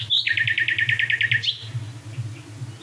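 bird, nightingales singing

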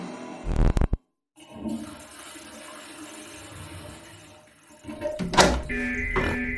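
household object, door opening

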